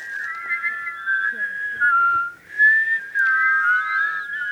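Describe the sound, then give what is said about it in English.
Several college students whistle together in an imitation of a chickadee's two-note descending song, overlapping steady, wavering high tones that run almost continuously with a brief dip midway, and no talking. “Yes, that's a chickadee.”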